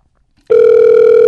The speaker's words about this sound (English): It's an American ringtone.